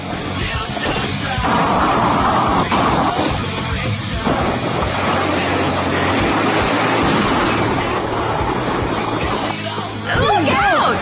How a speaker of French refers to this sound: Vous voyez ce scrou-scrou dans la neige, ça c'est vraiment de la poudreuse. Quand vous passez sur du verglas, ça fait du bruit de verglas, et quand vous passez sur de la poudreuse, ça fait du bruit de poudreuse.